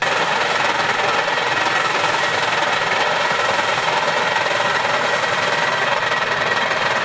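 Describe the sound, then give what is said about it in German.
A hand-cranked grain threshing machine, turned by two people on the right and left, carries grain through while its pins beat it, with chaff and grain coming out the front; it runs with a dense, continuous rattling and whirring clatter, loud and steady without pauses, and no voices. “Und durch das Drehen der beiden Leute rechts und links wurde praktisch das Korn durch die Maschine durchgetragen.”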